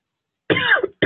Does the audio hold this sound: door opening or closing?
no